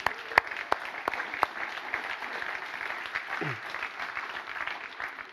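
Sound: short applause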